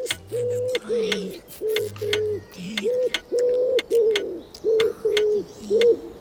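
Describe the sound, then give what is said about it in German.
Pigeons pecking about beside an organic waste bin coo in a steady, repeated rhythm, several soft low calls following one another closely, with faint clicking or tapping sounds in the background. “Und die Tauben, die ein paar Meter weiter neben der Biomülltonne herumpickten, weil Frau Freihöfer von gegenüber mal wieder die Hälfte daneben geschlabbert hatte, diese Tauben bewegten sich genau im Rhythmus der großen Wanduhr.”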